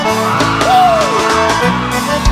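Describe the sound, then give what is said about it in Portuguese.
A loud, dense crowd of young single people yelling and whooping together at a live concert, with one voice rising above the roar in a long cheer; sustained shouting fills the whole moment. “ouvir o grito da moçada solteira.”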